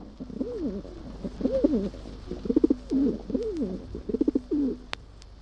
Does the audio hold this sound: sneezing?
no